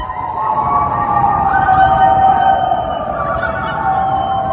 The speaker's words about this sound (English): And yes, those are residents of Washington Avenue in downtown St. Louis making their nightly 8 p.m. howl for healthcare workers.